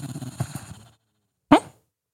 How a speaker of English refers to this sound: Oh, he's having a dream, buddy. He did a little bark.